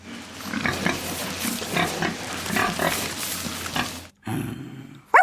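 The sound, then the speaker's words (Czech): A pig grunts and snorts in a steady, rapid stream for several seconds, then pauses briefly before a few more grunts and a short, sharp squeal at the end. “No milé prase, je nám to líto, ale nevíme.”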